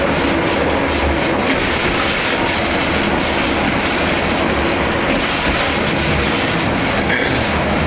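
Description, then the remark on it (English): Loud, steady rumble and hiss inside a moving bus on the off-ramp into Union Station, with a continuous low engine drone, road noise and faint rattles throughout, and no voices. “Once I get off, it's a bit noisy on this bus, but once I get off, I will give you a little background about Union Station.”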